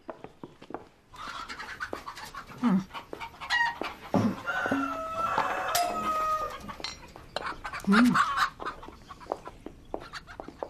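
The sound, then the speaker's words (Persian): Several chickens cluck while a rooster crows in bursts, the calls overlapping in a busy, continuous barnyard chorus with no talking; most of the birds are young cockerels. “خدایا چقدر مرغ و خروس داریم.”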